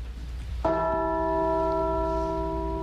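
A single church bell in Newtown, Connecticut, United States, strikes once, rung in honor of the victims of a shooting, its deep, resonant tone ringing out loudly and lingering in a slow decay over a low background rumble.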